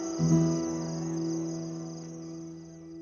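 A steady, unbroken trill of crickets outside a house at night holds at a moderate, even level for the whole stretch, with a low droning hum underneath and no voices.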